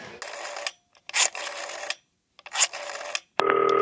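A few bursts of rustling, hissy noise are followed by a steady electronic ringback tone on an outgoing call from a green telephone, starting near the end and continuing clearly. No one speaks.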